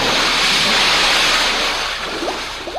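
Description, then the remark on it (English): A loud, rushing wash of churning water as a vehicle carrying passengers plunges head-on off the Thames River Bridge into the cold river below, roaring steadily and then slowly subsiding. No one speaks. “the guardrails and, much like a bird in graceful flight, swoops out over the Thames River Bridge, higher and higher, until it pauses in midair and, glancing downward, then dives head-on, rapidly and surely, into the incredibly cold, cold water below.”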